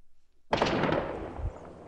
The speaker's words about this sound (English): The sound of gunfire and explosions in Kabul today